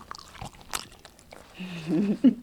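Wynn, a yellow lab service dog, chews a treat he got for picking up a dropped cell phone. A few sharp, crunchy bites and wet smacks are followed by a low murmuring, voice-like hum in the last second.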